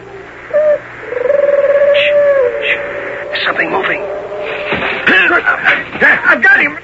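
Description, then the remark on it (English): Voices imitate owl hoots as Minotauri signal talk: a short hoot, then a long wavering call, followed by a flurry of varied hooting and warbling calls over a low background hum. “Those aren't owls. It's Minotauri talk.”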